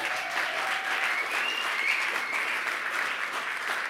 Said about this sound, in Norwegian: Skal vi gi teamet her en skikkelig applaus?